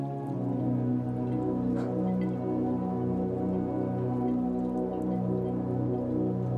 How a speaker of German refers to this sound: Du stehst an einer schmucken Wasserstraße. Vor dir schaukeln weiße Segelboote träge auf den plätschernden Wellen.